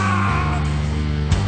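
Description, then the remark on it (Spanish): Loud, sustained yelling with strong harmonic tones, as if people are shouting, with a sharp burst near the end and no clear words. “Escucho gritos, risa.”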